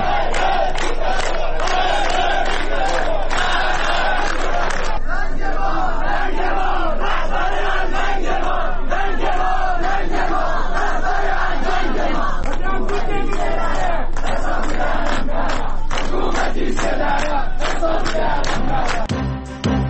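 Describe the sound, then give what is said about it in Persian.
A large protest crowd chants and shouts together in loud, rhythmic bursts, many voices overlapping in a continuous roar that stays dense and energetic for the full stretch, at protests held during Mahsa's funeral ceremony in the town of Saqqez, Kurdistan province. “اعتراضات همزمان با مراسم خاک سپاری مهسا.”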